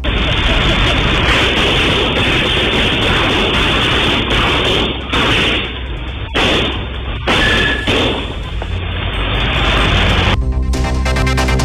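Several sharp gunshots, fired by security guards and robbers in a shootout during a robbery, crack out at irregular intervals over a dense, noisy background, muffled and harsh as if captured on a phone.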